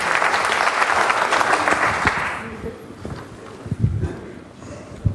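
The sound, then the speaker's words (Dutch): A crowd breaks into dense, loud applause that holds steady for about two seconds, then quickly dies away into scattered claps, low thumps and murmuring voices. The applause is for three people who have just made a formal declaration and promise and are being congratulated. “En u krijgt applaus.”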